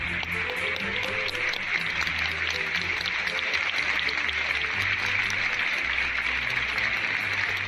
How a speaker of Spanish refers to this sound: Y con esos aplausos, Valladolid ha despedido hoy al artista Concha Velasco, donde esta mañana sus restos mortales ya descansan en el Panteón de Ilustres, en el Cementerio del Carmen de Valladolid.